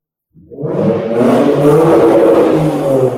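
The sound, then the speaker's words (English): A car engine starts up and revs steadily, a loud, rumbling roar with layered harmonics that builds quickly and holds for a few seconds without anyone speaking. “That's how I'm feeling right now, getting revved up.”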